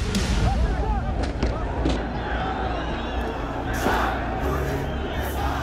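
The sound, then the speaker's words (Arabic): A large crowd of protesters in Tunisia shouts and chants together against the Ben Ali regime on 17 December 2010, in a dense, continuous roar, with overlapping voices and occasional sharp bursts rising above the steady loud din. “السابع عشر من كانون الأول ديسمبر 2010 تونس تشهد احتجاجات عارمة ضد نظام بن علي.”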